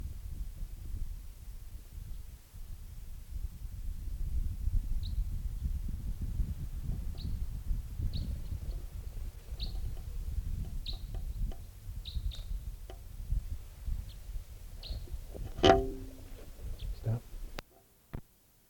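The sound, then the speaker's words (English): A type 3 bird, later collected as bird number 615, gives a series of short, high, thin chip calls at irregular intervals, faint over a steady low rumble, with a louder burst of sound near the end. “Recording that type 3 who was just calling there was collected, and it'll be bird number 615.”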